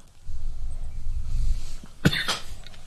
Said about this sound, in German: Genau, deswegen hustest du.